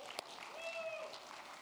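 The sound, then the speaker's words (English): A crowd applauds in honor of a performer's wife with steady, dense clapping for under two seconds, a short whistle rising briefly above the noise midway through. “We applaud whatever disorder she has that keeps her married to me.”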